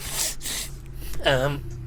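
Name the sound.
sniffling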